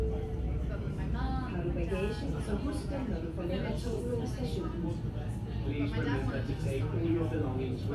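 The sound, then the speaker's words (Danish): Crowded Copenhagen Metro train at rush hour: many overlapping voices chatter over a steady low rumble of the moving carriage, busy and continuous throughout. “Or the Copenhagen Metro during rush hour.”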